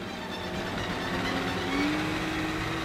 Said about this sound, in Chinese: 快艇迅速地开过去，在汪出血水的河面上转着圈。